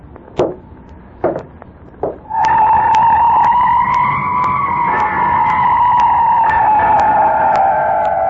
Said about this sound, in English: And now the approach of stealthy footsteps outside the cottage.